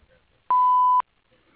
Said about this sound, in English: Please leave a message at the beep, and I'll get back to you as soon as possible.